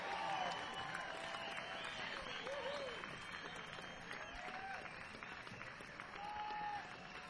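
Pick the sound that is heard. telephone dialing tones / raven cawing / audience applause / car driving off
audience applause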